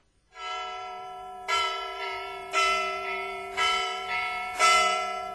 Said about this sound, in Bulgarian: Иди бий камбаната да се съберат всички.